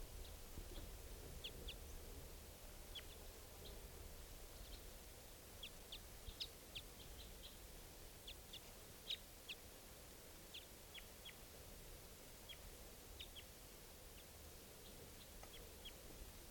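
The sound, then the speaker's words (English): Wild birds call repeatedly with short, high-pitched chirps scattered irregularly throughout, not loud, over a steady background hiss. No one speaks. “Wild birds at I don't know which one.”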